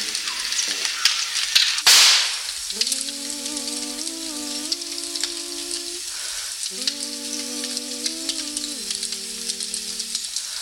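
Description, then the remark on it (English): Dense, steady crackling and popping of a burning wildfire fills the whole stretch, with a sharp rushing burst early on and two long sustained tonal notes droning over the crackle. “Sometimes, you know, it's an evening like this, and you're surrounded by the flames. Pretty much all you can see.”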